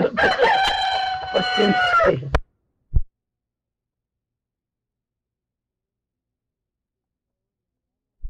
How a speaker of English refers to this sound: There's a rooster.